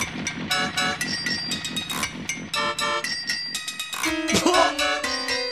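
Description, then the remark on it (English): An upbeat pop song plays loudly from a wall-mounted jukebox, with a steady, bouncy beat and bright stacked chords, ending on a honking horn-like flourish; no one talks over it. “then the dancing lady took a pound coin from the tin and put it in the jukebox on the wall.”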